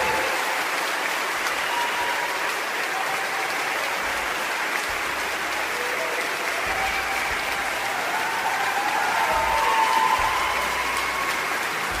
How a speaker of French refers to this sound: Et puis, ce fut le bal. Monsieur le principal l'ouvrit. Un tonnerre d'applaudissements le salua, puis ce fut la mêlée générale.